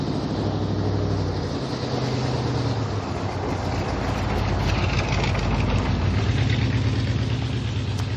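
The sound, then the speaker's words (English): A loud truck towing a ski boat rumbles by on a cool, overcast morning, its heavy engine drone and road roar holding steady and full for several seconds, with no voices over it. “Loud truck towing a ski boat.”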